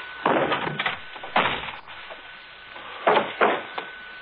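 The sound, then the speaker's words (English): A series of heavy wooden thuds and bangs as a door is kicked open, several forceful impacts in two close clusters with short pauses between, loud with no voices. “I'll kick open the door and you stand back.”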